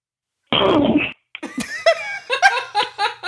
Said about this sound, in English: We do have one voicemail, and it's just basically breathing into the mic. Let's see if you guys can even hear this.